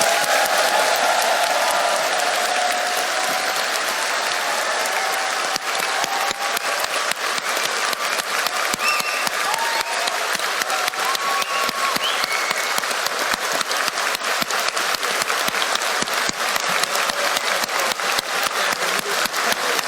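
At the close of an event, a large audience gives a final round of applause for everyone involved, steadily for about twenty seconds, a dense wash of clapping at a constant loud level, with faint cheers and whoops mixed into the crowd noise.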